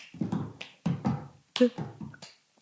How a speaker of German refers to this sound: Und dann folgt aber auch noch, da haben wir diesen Cup-Song performt. Das war richtig cool. Kennst du den? Nee. Ja, das ist irgendwie. Der klatscht halt so.